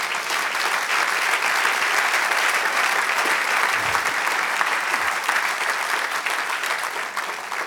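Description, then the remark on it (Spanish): An audience applauds the Lord steadily, a dense wash of many hands clapping at an even, sustained loudness for several seconds without a break, with no voices standing out above it. “Y ahora un aplauso al Señor.”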